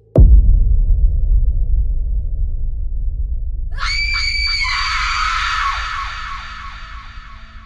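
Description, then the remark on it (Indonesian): Just after cooking, a man suddenly lets out a loud, panicked scream, sustained for several seconds, wavering as it goes. Before it, a sudden thump opens into a low, steady rumble. “Pas baru banget selesai masak nih Bang, tiba-tiba si … teriak.”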